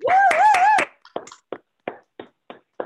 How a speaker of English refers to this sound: Come on, y'all can unmute your mics and clap for that.